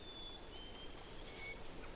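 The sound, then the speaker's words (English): A broad-winged hawk gives one thin, high-pitched whistled cry, held steady for about a second after a brief sharp start, clear over a quiet outdoor background in an area with a beaver pond and lowlands. “I've gotten closer to the broad-winged hawk, and that's that cry sound.”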